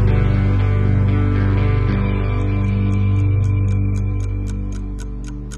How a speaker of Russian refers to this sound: Молча сидит на диване, тикают стрелки на фоне.